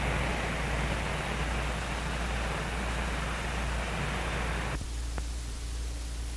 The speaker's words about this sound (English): We will stop for just a moment while the rain is pretty heavy.